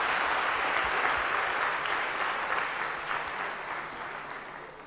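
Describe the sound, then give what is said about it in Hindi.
Steady applause from a crowd bidding farewell to a departing participant, a dense wash of many hands clapping at once, holding strong before slowly tapering off toward the end with no speech over it. “हम सब जोर से करतल ध्वनि देकर उनका तालियों से.”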